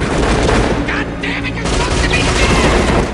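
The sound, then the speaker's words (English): Loud, sustained bursts of automatic gunfire spray rapidly and continuously, dense, with booming reports blending into a constant roar for the whole stretch, as a gunman sprays a group of bodyguards with bullets. “Barnes continues to spray Grimes' bodyguards with bullets.”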